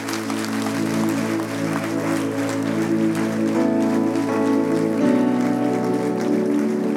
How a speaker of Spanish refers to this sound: Si le vas a aplaudir, apláudele.